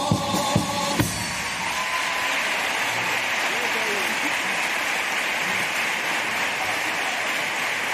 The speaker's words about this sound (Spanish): Pero ¿cómo la vamos a rechazar? La recibimos con los brazos abiertos y, como han podido oír, con el aplauso.